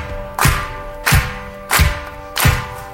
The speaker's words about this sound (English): Clapping before the show.